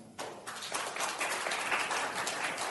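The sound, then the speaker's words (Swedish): Scattered applause from part of an audience begins after a brief quiet moment and carries on steadily for a couple of seconds, with thin, uneven claps rather than a full ovation. “Det var bara hälften som klappade.”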